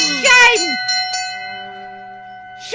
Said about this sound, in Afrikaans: Ja, hoor die klokke lui. Dis my klokke. Nee, dis my klokke.